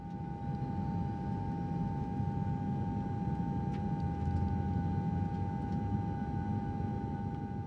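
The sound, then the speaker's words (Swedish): A steady airplane cabin drone during a flight to Morocco: a dense, low engine rumble with a constant high whine riding above it, holding at the same level throughout with no voices. “För under en flygning till Marokko så händer mystiska saker på flygplanet.”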